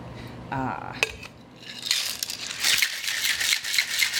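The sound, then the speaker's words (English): A cocktail shaker rattles with ice, mixing an autumn bonfire cocktail of scotch, apple, bitters and maple syrup, in a fast, steady rhythm of bright clattering pulses, starting about halfway in and continuing to the end after a brief voice and a sharp clink. “Shake it up.”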